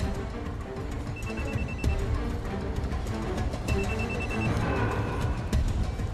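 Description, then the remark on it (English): A cell phone rings with an incoming call, in two short bursts of high, pulsing beeps, partly buried under loud, busy background noise with bustle and clatter. “Jack looks around in agitation, then contacts Andrew by cell phone, who walks unwittingly along the platform with Khalil.”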